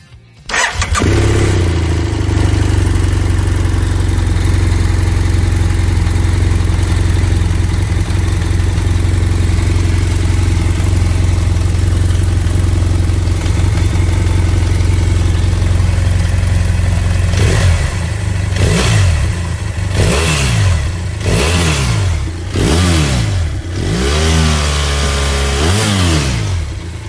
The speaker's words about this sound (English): Was clearly a parallel twin, not a boxer engine, and one of the most fuel-efficient, underrated adventure bikes out there, in my opinion. Yep, it was the F800 GS.